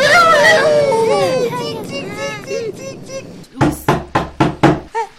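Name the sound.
knocking on a door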